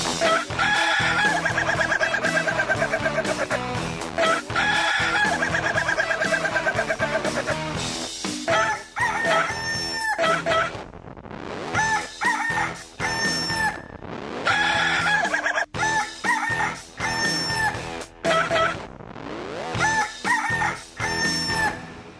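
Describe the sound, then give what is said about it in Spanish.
A rooster crows loudly, several long crows in quick succession with clucking between them, set against a dense, busy background and no talking. “Ahí está este gallo para iniciar la semana.”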